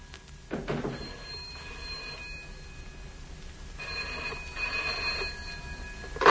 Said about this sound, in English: Oh, there's a telephone.